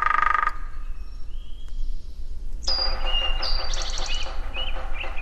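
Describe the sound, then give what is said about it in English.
Two hairy woodpeckers, recorded by Krudsma at the Quabbin Reservoir, call back and forth in a kind of call and response: a short burst of sharp, high notes, a pause, then a longer, rapid rattling series of squeaky calls over a steady background hiss. “Krudsma recorded 2 hairy woodpeckers several years ago at the Quabbin Reservoir in a kind of call and response.”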